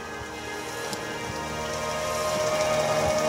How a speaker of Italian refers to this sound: Vabbè, il temporale non poteva mancare, del resto i suoni del temporale.